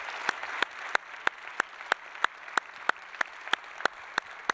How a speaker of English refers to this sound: And so would you just help me thank all of our musicians, choir, orchestra, all the volunteers, just give them a big, huge round of applause for all that they've done.